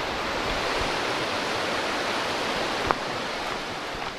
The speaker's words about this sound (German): Und dann ist wieder Ruhe. Nur noch das Plätschern vom Rhein.